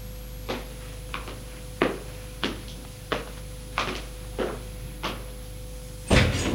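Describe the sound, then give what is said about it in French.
Keys in the lock, then a door opening: a run of sharp, evenly spaced clicks and rattles ends in a louder, fuller burst as the door swings. All of it plays over a steady low hum, with no voices. “La porte s'est ouverte.”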